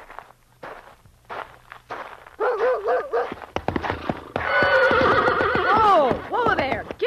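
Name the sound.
horse neighing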